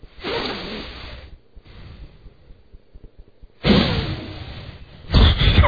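Heavy breathing through the nose: a long, loud rush of air, a quieter stretch of softer breaths, then two strong, hissing breaths back to back. No one speaks.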